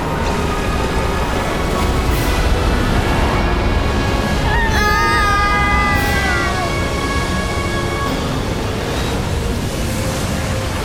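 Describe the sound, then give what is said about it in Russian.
Seawater rushes together and closes in a loud, unbroken roar that keeps up for the whole clip. A brief wavering, wail-like tone rises above the surge near the middle. “Море сомкнулось и поглотило вражеское войско.”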